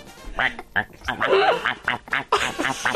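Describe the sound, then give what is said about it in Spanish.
A person imitates a duck, letting out a rapid, irregular run of nasal, raspy quacks, fairly loud, with brief gaps between bursts. “Pato.”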